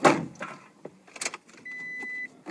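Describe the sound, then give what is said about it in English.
Someone climbs into a truck: a door thump and rustling clicks, then a steady electronic warning chime for about half a second, with no engine catching. “How come I can't get your car to start?”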